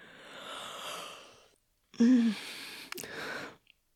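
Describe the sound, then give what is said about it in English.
A drawn-out yawn: a long breathy inhale, a short pause, then a voiced, falling groan trailing off into an airy exhale. No one speaks. “But right now, I am kind of feeling like I might yawn, to be honest.”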